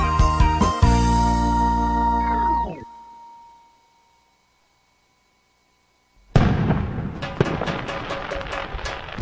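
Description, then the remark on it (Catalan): After a tonal, sliding sound fades into a few seconds of silence, a loud string of Sant Joan firecrackers in a radio advert for Pirotècnia Catalana bursts out, crackling and popping in rapid succession until the end. “Passaràs un Sant Joan sense petards?”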